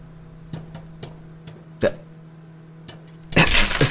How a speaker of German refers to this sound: Ich mache mir gerade Popcorn. Ja, du machst ja gerade Popcorn. Ja, ist so spannend gerade. Wie lange braucht das noch? Ich glaube, ich bin gleich fertig.